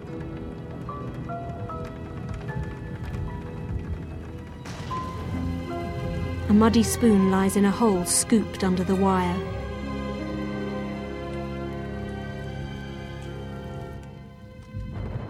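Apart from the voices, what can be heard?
rain falling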